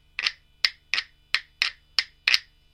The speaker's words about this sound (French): Voilà, donc ensuite, c'est avec les petites entailles qu'on a rajoutées. Donc on va pouvoir faire gratter tout simplement, comme ça. Donc après, on peut enchaîner une frappe simple, avec un grattage.